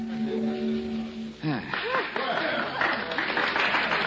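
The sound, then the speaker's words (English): A held musical note from an orchestra gives way to a burst of audience applause, steady and fairly loud, with scattered voices and cheers mixed into the clapping. “Ah, thanks, ladies and gentlemen, for your kind applause.”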